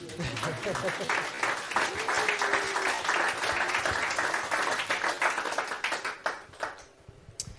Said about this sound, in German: Die perfekte Zutat ist eine Bio-Johannisbeere aus Niederösterreich. Also regional. Regional ist uns wichtig, jawohl. Also kurz einen Applaus für die Johannisbeere, bitte.